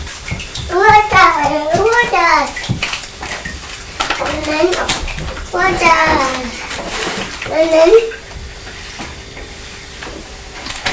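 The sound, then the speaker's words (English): A young child babbles and vocalizes in several bursts while playing with water, over a steady wash of splashing, running water that continues after the voice stops. “Now, if we're playing with more water, you must be careful.”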